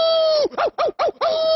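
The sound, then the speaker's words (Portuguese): A person imitates a wolf howl: a steady, fairly loud tone that breaks into three short wavering yelps midway, then settles back into a held note. “Claro, vou dar mais um uivo.”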